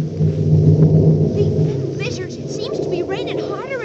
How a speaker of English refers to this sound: It's still pouring rain, and the night's mighty dark. Just listen to that thunder.